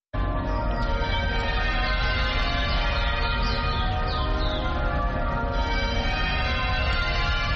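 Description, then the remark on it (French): The bells of St George's Cathedral in Cape Town, South Africa, ring for 10 minutes without pause, their loud overlapping strikes blending into a dense, shimmering wash of sustained metallic tones. No voices are heard. “Les cloches de la cathédrale Saint-Georges sonnent pendant 10 minutes.”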